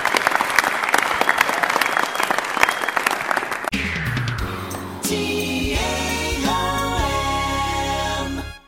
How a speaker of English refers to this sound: Then I'm going to say thank you guys very much for coming, and a big round of applause for Rick Hebert doing a great job over here.